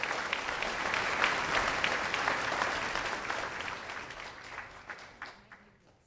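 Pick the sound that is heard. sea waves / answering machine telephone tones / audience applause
audience applause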